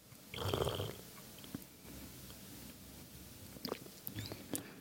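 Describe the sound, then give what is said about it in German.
A loud slurp of coffee sucked noisily from a cupping cup during a coffee cupping, where ground coffee in the cup is topped up with water and the grounds have sunk to the bottom, followed by quiet smacking and small clicks. “und dann wird das mit Wasser aufgegossen und dann schlürft man das so.”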